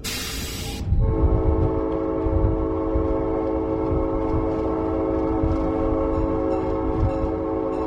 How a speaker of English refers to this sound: Well, you can go to Chattanooga and take a ride on a real train at the Tennessee Valley Railroad Museum. Steve Freer is with us today, and we're on one of those real trains.